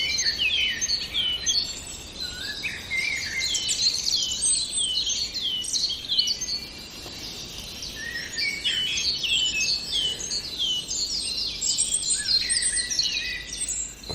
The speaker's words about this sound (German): hören jetzt vor allem das wunderbare Flöten der Amsel